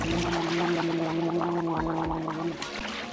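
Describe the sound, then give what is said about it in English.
Loud, continuous bubbling gurgle of water churning, with a steady low tone running underneath and choppy splashy bursts throughout, as someone is plunged under the water by an animal gripping the scruff of his neck in its jaws. “Before I could finish my sentence, he sprang at me, clamped his powerful jaws around the scruff of my neck, and plunge me under the...”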